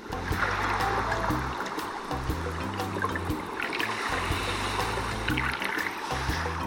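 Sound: sea water lapping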